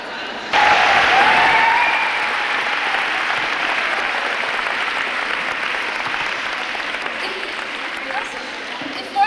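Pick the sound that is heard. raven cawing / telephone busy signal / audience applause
audience applause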